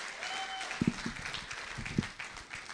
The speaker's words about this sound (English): Wow. I just want to come to this church to get the applause. That's incredible. I wish my wife was here to see that. And hear it. Please do it again. We're going to record it for my wife.